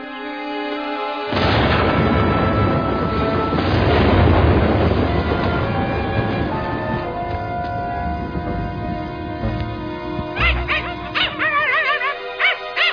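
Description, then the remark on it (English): A pack of dogs bursts into loud, continuous barking and yipping after a brief quiet moment, the overlapping voices forming a noisy chorus that stays busy to the end, with no talking. “Dinner's on, dogs!”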